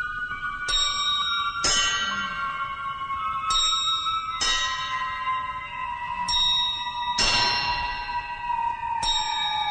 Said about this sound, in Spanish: Y comenzaron a oírse las campanadas que el reloj no podía dar.